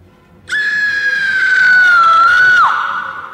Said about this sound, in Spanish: ¡A ese grito! Sí, sí, que lo he oído.